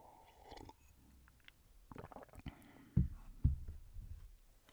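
Quiet sipping and swallowing of water: a soft slurp followed by two distinct low gulps in quick succession, with faint rustling around them and no talking.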